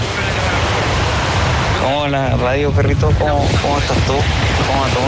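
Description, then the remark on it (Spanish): Steady, roaring wind and surf noise at a beach fill the whole clip, with a man's voice speaking over it from about two seconds in while he lies face down on the sand. “Estaba acostado en la playa. En la playa, tirado de guata en la arena.”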